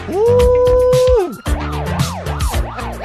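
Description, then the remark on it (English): A loud siren holds one steady tone, then breaks into a rapid up-and-down wail, sounding over a pounding beat with regular thumping hits underneath. “Listen to the sirens.”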